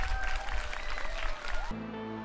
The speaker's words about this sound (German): Und ja, und das hat einen riesigen Applaus verdient an das Berufskolleg der Stadt Bottrop.